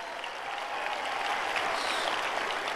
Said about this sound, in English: Give her a hand clap.